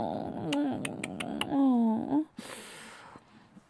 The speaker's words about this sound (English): Oh, poor puppy. Listen to that whining and whimpering.